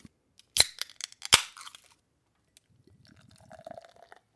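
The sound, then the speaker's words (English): A couple of sharp clicks and cracks, then a third beer glugs out into a glass in a quick, rapid gurgling rhythm, soft and steady for a second or so. No voices. “Ooh, that was some good pouring audio. Got a little bit of glug, glug, glug, glug.”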